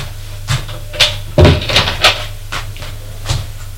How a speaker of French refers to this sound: Ouvre le placard. Il n'y a presque rien.